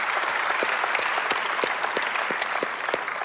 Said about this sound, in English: So by a round of applause in all of our campuses, would you help me welcome those of you that are there at Beaver Creek? We're glad to have you.